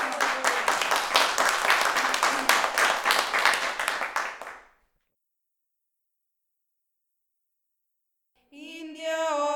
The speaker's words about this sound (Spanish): Un aplauso, compañera.